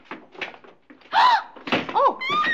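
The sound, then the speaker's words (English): A door is opened and shut, its hinges letting out wavering squeaks and creaks over a couple of seconds, with muffled thuds and rustling as it swings. “You check that door, I'll check this one.”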